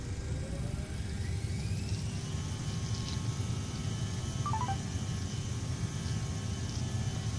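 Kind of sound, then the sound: vehicle, aircraft engine running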